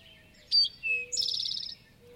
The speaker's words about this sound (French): Les connaisseurs des chants d'oiseaux en ont même clairement reconnu certains. Le toï à flanc roux, par exemple.